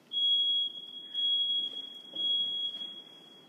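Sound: smoke detector beeping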